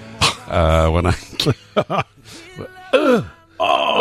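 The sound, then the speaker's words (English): A person imitates the groan their father used to make when getting up from a chair: a long, strained, low vocal groan followed by several shorter grunts and huffs, with a final drawn-out effortful moan. “That's the noise he used to make when he used to get up.”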